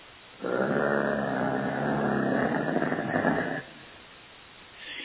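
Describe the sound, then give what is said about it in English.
A dog lets out one long, steady, low growl lasting about three seconds, with a rough, rumbling texture that holds even throughout before cutting off into quiet. “And it was a long, steady growl, and I heard, that's the first time I've heard that growl.”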